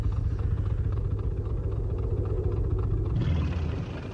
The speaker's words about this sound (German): Ich kann schemenhaft ein Motorboot erkennen. Ja, jetzt sehe ich es auch. Es fährt ans Ufer.